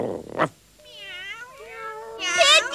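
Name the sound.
many cats meowing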